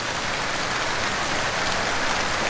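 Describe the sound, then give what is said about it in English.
Heavy rain from a storm pours down steadily through the night, a dense, constant hiss of drops drumming on a surface with no pauses. It's loud, with no voices. “The rain grew into a heavy storm, which continued through the night.”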